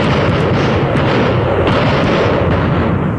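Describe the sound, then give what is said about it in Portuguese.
A loud, dense burst of gunfire sound effects in a shootout with a policeman, a rapid rumbling volley of shots with a few sharper cracks standing out, filling the whole moment with no voices. “Lá vai fogo, policial.”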